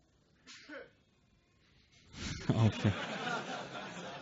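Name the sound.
sneeze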